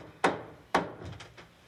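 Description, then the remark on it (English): Someone hammering nails into wood, nailing a bed to the floor: two sharp, loud strikes about half a second apart, followed by a few lighter, quicker taps. No one speaks. “Hammering nails.”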